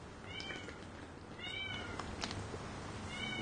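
A cat meows three times, short high-pitched calls spaced about a second apart, fairly faint against a soft background hiss with no one talking.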